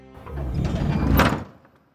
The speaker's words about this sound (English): The door closes.